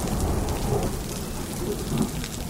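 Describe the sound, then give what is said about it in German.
Heavy rain pours down in a steady, dense roar, loud, with a rumble underneath and no voices: a sudden evening downpour in the Alps that breaks up a demonstration and floods the protest camp. “Das idyllische Alpenpanorama verschwindet und ein heftiger Platzregen zersprengt die Demo.”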